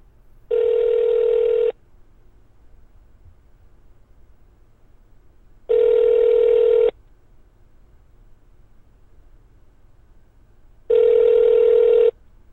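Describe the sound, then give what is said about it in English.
A phone line rings back three times, each steady buzzing tone lasting about a second, separated by long, even pauses over a faint low hum. No one speaks. It is a prank phone call placed from an iPhone with the caller's number blocked. “Ladies and gentlemen, this is a prank phone call”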